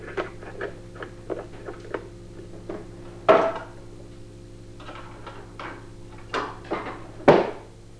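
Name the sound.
door being closed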